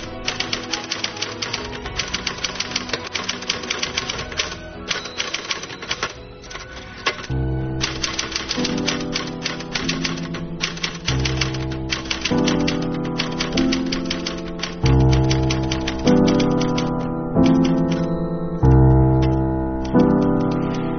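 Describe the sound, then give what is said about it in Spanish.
Rapid typewriter keystrokes clatter in a dense stream; after several seconds, steady musical chords join underneath while the typing carries on, with no voices. “¿Alguno de vosotros ha utilizado alguna vez una máquina de escribir para hacer relatos?”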